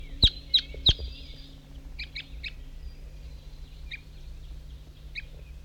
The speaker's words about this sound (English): I was on my way off, but there's some crossbills coming up to the hilltop. 7:15 a.m.